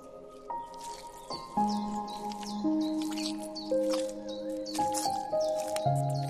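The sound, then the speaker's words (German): Wet, squishy steps squelch through mud on a rain-soaked meadow at an irregular pace, each one a soft sucking splat, over a bed of sustained, low musical tones. “Aber du musst gestehen, dass es gleichzeitig ganz schön spaßig ist, so durch den Matsch zu waten.”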